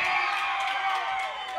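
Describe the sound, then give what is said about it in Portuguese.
A crowd shouts and cheers together for a dancer in a loud, sustained burst of many overlapping voices, with scattered whoops rising above the roar before it eases slightly at the end. “Quem gostou, dá um gritinho pro cigano aí!”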